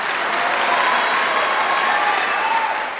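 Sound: applause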